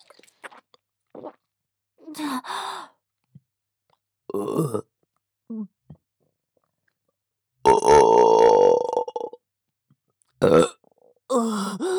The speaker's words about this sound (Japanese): ゲップ出ちゃいます。ご主人様に改造されたこの喉が感じて、ゲップをご主人様にも聞かせたくて、ゲップしちゃうたびに感じちゃいます。